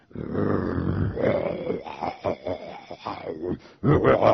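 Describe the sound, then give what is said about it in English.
A deep, rumbling lion growl rolls out loud, rising and falling in uneven bursts before a final swelling snarl. “And as he's saying this, there's a rumbling sound which comes from inside the pillar.”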